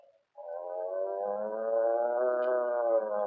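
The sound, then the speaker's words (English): A man's voice imitates the moo of the cows in a farm meadow, a single long, steady, drawn-out low tone held for about three seconds, fairly loud, with nothing else around it. “The cows in the meadow, they go.”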